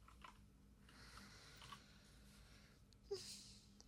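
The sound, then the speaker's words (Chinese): Soft, irregular clicks of someone typing on a laptop keyboard while chatting online, quiet, with a slightly louder tap near the end over a faint background hiss. “打字的声音太大，会被我爸妈听到的。”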